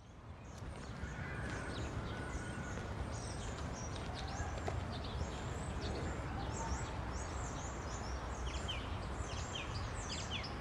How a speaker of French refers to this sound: Là, on entend beaucoup en ce moment, pourtant il est presque 3h dans l'après-midi, on entend beaucoup les oiseaux. Et donc, il y a quand même, mais de plus en plus, on voit que le printemps est bien là.